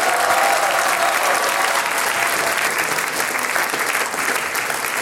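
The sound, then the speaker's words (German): Sustained audience applause for all the singers and musicians at a singers' and musicians' meeting in the multipurpose hall in Turnau, a dense, steady wash of many hands clapping at once, loud throughout, with no voices standing out. “Großer Applaus für alle Sänger und Musikanten.”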